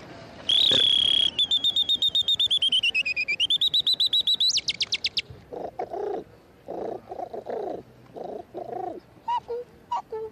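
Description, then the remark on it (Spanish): A bird whistle imitates a canary, played for Radio Nacional: a loud, sustained high note breaks into rapid warbling trills for several seconds, followed by softer, lower muffled bursts. “El canario.”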